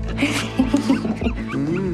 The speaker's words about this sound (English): The six identical puppies clamor for the treats.